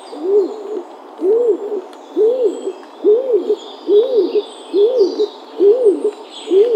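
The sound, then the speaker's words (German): A blue-grey dove, the rarest of the five European dove species, calls with a steady series of about eight low, hollow two-part coos, evenly spaced, with no talking and only faint background sound. “Also ist die seltenste der 5 europäischen Tauben.”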